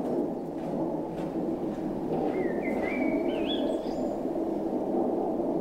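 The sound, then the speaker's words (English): A bird sings outside, a short run of rising, warbling whistles, fairly clear, over a steady low rumble of background noise. No one speaks. “There seems to be a happy bird outside.”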